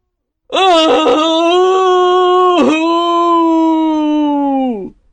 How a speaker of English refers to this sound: Just then, he heard a terrible cry of sadness from the sea.